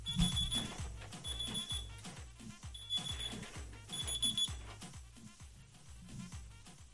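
An alarm clock rings in a steady pattern of shrill electronic beeping bursts, repeating about every second and a half, over a rhythmic low thumping background; no one speaks.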